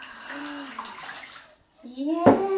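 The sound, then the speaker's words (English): Warm water is poured from a jug and splashes over a young child's feet in a bath, with a short splashy burst near the end, while the child's voice babbles and squeals over it. “And shall we pour it over your feet?”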